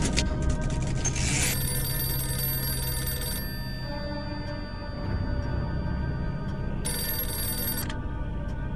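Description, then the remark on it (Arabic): An old-style telephone bell rings in two bursts, a long trill followed by a shorter one after a pause, loud over a steady low hum. The call is from someone with a message from the royal court. “ألو، تفضل سيدي، هناك من يريدك على الهاتف.”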